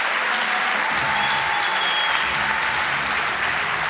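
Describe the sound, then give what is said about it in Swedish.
Steady audience applause at a live show for Alex Schulman and Laila Bagge fills the whole stretch, a dense, even wash of many hands clapping at a fairly loud level, with no voices breaking through. “Stort jävla tack för att ni kom tillbaka och applåder för Alex Schulman och Laila Bagge.”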